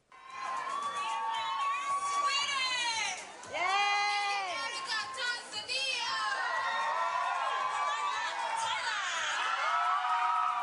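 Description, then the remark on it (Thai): A large crowd of Thai supporters cheers and shouts continuously for Maria Poonlertlarp, Thailand's representative at the 66th Miss Universe pageant, 2017, in Las Vegas, Nevada, with many high-pitched voices screaming and whooping over a dense roar. The noise is loud and sustained, dipping briefly before surging again. “เสียงกองเชียร์ชาวไทยจำนวนไม่น้อยเดินทางไปให้กำลังใจนางสาวมาริยาภูลเลิศลาภตัวแทนประเทศไทยบนเวทีประกวดนางงามจักรวาลหรือ Miss Universe ครั้งที่66ประจำปี2017ที่นครลาสเวกัสรัฐเนวาดา”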